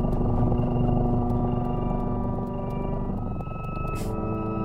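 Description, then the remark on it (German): Experimental music researchers composed for cats, with purring elements for calming and strong meow-like pitch changes: layered, sustained tones with gliding, whale-like pitches over a dense, rumbling low drone, steady and fairly loud throughout, with a brief airy burst near the end and no voices. “Die Forscher haben also Schnurrelemente in die Katzenmusik eingebaut zur Beruhigung.”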